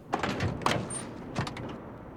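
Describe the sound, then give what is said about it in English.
Someone climbs into a yellow Dodge Charger amid a few quick clunks and rustles, followed by a solid thud as the car door shuts. No one speaks. “gets into a yellow Dodge Charger.”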